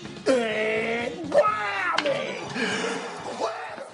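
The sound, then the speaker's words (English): A scattered handful of audience voices call out the catchphrase "whammy" in a drawn-out, unenthusiastic way, overlapping loosely for a few seconds at moderate volume, like a lukewarm crowd response. “Wow, those were so half-hearted.”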